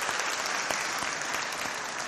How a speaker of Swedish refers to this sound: Och jag tänkte när jag skulle säga detta att vi måste ge dem en applåd. Vi kan väl göra det under predikan. Vi får ge en applåd till konfirmandarbetarna.